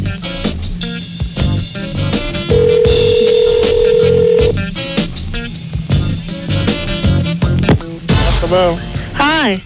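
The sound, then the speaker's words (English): Ringback tone on an outgoing phone call to a Taco Bell somewhere in the country: a single steady, mid-pitched tone lasting about two seconds, heard under busy, loud background chatter and noise. “We're going to call a Taco Bell somewhere in the country.”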